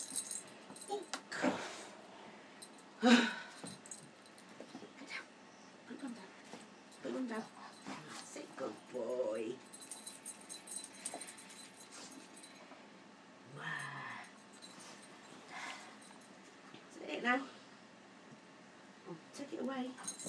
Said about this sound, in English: He's got some parrot bells on his collar, that's why the collar sounds a bit different.